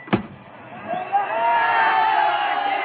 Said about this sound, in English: Look at that crowd. It's the whole student body. It's this hour of the morning.